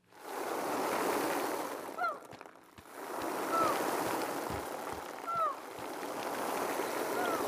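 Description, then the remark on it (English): A steady rushing wash of sea waves fills the whole stretch, swelling and easing slightly, with a few faint high chirping calls rising above it. “The sea. The sea. The sea.”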